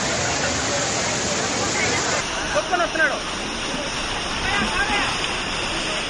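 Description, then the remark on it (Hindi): Floodwater rushes in a loud, steady roar that fills the whole clip, while a crowd's voices and occasional shouts rise faintly in the background. The flood is at the Kapileswara Swamy temple, after 12 to 14 cm of rain fell within a few hours in the Tirumala hills. “कपिलेश्वर स्वामी मंदिर की ये तस्वीरें बता रही हैं कि किस तरह पूरा इलाका कुछ ही देर में पानी की लहरों में डूब गया।”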